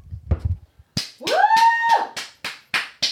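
One person claps alone in a steady rhythm, about eight sharp claps, while letting out a rising, sustained whoop over the first few claps.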